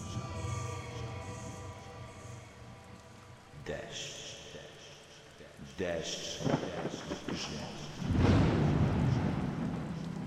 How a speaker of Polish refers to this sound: Grzmot, który swoją potęgę przedstawia w odmienny sposób. Do zaistnienia potrzebuje najmniejszego ułamka sekundy.